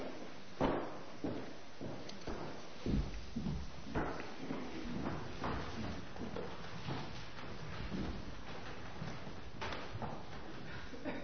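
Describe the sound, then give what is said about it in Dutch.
Steady footsteps on a hard floor as a man walks to the front of an audience at an even pace, each step a dull, echoing knock, with faint background murmur beneath. “We zijn heel blij en dankbaar dat je zo naar voren kan lopen.”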